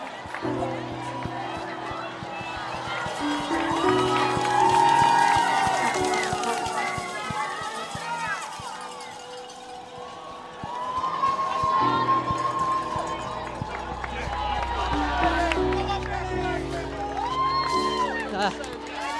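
A continuous wall of overlapping voices as spectators along a marathon route in London, near the Monument and London Bridge, shout, cheer and whoop, with no pauses; the clamor stays fairly loud throughout, with a low rumble joining in toward the end.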